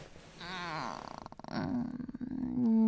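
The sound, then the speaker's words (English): A person imitates a cat's purr, a throaty voiced tone breaking into rapid rattling pulses, a little croaky, with a brief pause before a louder final rumbling stretch. “So good, it makes me purr. Sound more like a frog.”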